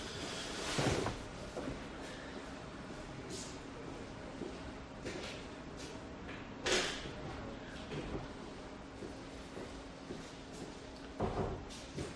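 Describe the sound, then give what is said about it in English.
A door is pulled shut, with a few scattered thumps and clattering knocks spread several seconds apart over a low background hum. “I'm just going to close the door for a second.”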